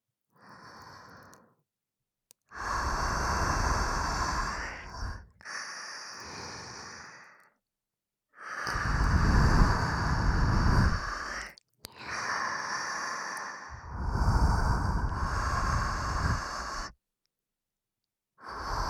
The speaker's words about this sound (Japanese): ギリギリまで密着して、私たちのあったかい吐息、いっぱいかけてあげるからね。